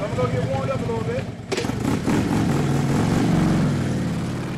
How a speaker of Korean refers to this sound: 오토바이를 타고 여러 장애물을 통과하는 아찔한 묘기를 보여주기도 했지요.